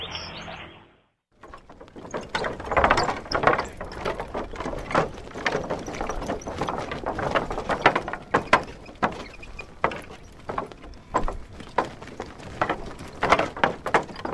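The bicycle tires of a cyclist and his wife roll over loose teak boards while pedaling across the world's longest teak footbridge in Mandalay, setting off a steady, irregular stream of squeaks, creaks and clattering knocks after a brief silent moment at the start, with no one speaking.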